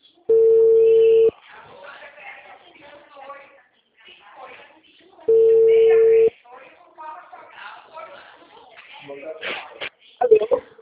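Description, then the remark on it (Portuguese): A telephone rings twice without being answered, each ring a steady one-second buzzing tone, about four seconds apart. People talk softly in between and after the second ring. “que não atende.”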